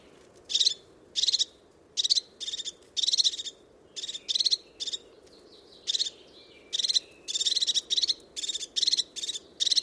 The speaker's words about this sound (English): The call of the crested tit, very sharp, very precise. And such incredible little birds.